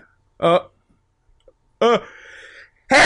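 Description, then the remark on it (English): A person builds up to a sneeze with two short breathy voiced gasps, then a sharp, loud burst of air right at the end, with no other sound. “That's because you sneezed.”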